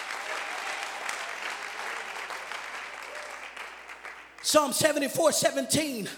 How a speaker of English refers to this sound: you ought to clap your hands if you're thankful for the boundaries. Debes aplaudir tus manos si estás agradecido por las reglas.